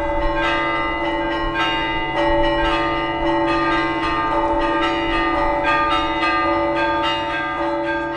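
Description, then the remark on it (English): Bells of the Church of the Greater Ascension ring from several towers together in a dense, overlapping peal, repeated strikes layering into a loud, continuous wash of chiming tones with no voices. “It was as if several bell towers were chiming at once, a whole bell symphony.”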